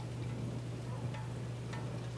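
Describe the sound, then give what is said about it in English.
Light rain patters softly onto a gutter, a steady quiet hiss broken by a few sparse drips and ticks over a low, constant hum. “A little bit of rain on the gutter.”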